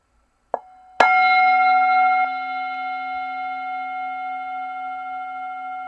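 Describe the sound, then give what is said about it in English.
A soft tap, then a single clear strike of a meditation chime that rings out with bright sustained tones, slowly fading but still humming to the end. No voices. “And then I will ring the chime again.”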